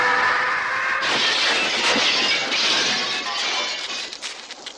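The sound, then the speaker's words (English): A stock film scream, recorded in the late 1970s by an unknown voice artist and first used in the 1980 film The Ninth Configuration, where a bad guy with a knife lunges through a window in a bar fight. A short, piercing scream with a steady harmonic tone, then a loud crash of breaking window glass and several seconds of tinkling, scattering shards. “During a bar fight scene, a bad guy with a knife lunges through a window.”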